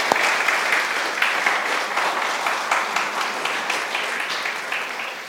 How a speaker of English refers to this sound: our worship team, a round of applause for everything they do.